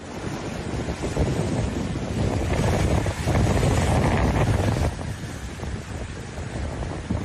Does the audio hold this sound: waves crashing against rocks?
yes